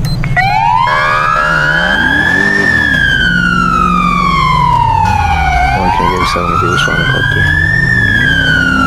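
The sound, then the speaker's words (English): A loud police car siren wails in long, slow rising and falling sweeps over a low engine rumble, with no voices. “I wish this cop car would get out of my way.”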